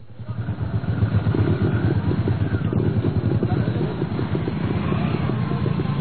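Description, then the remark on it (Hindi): Motorcycle engines putter and rumble steadily, a continuous low throbbing drone at an even loudness throughout, with no clear rise or fade of a passing bike, as farmers in trousers and shirts ride motorcycles in a village near the town of Jhagadia, Bharuch district, Gujarat, India. “झागड़िया कस्बे के गांव में पैंट शर्ट में मोटरसाइकिल पर सवार ये लोग किसान ही हैं, जो कॉरपोरेट से टक्कर लेने की तैयारी में है।”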